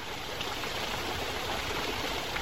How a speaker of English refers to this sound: Mountain streams, rivers cascading down from snow-packed glaciers high in the Himalayas.